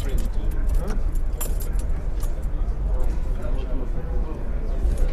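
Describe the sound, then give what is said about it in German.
Keys jangle and clink over a steady low rumble inside an electric car as the key fob is taken and the electric motor is started, with scattered metallic taps and no distinct engine start. “nimmt den Schlüsselführer und startet den Elektromotor.”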